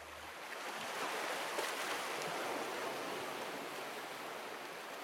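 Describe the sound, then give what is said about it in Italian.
A steady, full wash of surf fills the scene, with waves breaking continuously on the shore. No voices are present. “Quando ci sono le onde, ma l'acqua è lo stesso trasparente come un cristallo ed è contemporaneamente blu e verde, del colore della sabbia che c'è sotto.”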